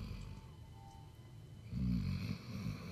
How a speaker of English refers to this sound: Hopefully you can pick that up. That's our pit bull lab mix snoring on the couch. Is he a pit lab? Yeah. He's a pit lab. Pit lab snoring away.